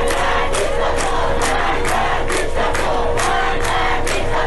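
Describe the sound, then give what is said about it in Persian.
A large crowd of students at a protest at the University of Isfahan chants in unison, voices rising in loud rhythmic bursts roughly every half second, a steady protest slogan repeated without pause. “در شعب مختلف دانشگاه آزاد در تهران، صنعتی شریف، علم و صنعت، خوارزمی، تربیت معلم سابق، دانشگاه شیراز، با هنر کرمان، آزاد و فردوسی مشهد، صنعتی اصفهان، نوشیروانی بابل، رازی کرمانشاه، کردستان و تبریز برگزار شدند و دانشجویان در دانشگاه اصفهان شعار دادند.”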